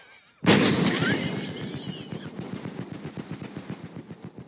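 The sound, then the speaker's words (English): A voice imitates a helicopter: a sudden loud, breathy burst gives way to a steady, rapid chopping rhythm of pulses that continues to the end, with no words spoken. “But here's my helicopter.”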